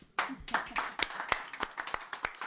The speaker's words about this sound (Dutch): En voor jullie een groot applaus.